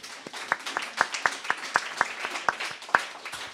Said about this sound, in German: Ein kleiner Applaus bitte mal kurz.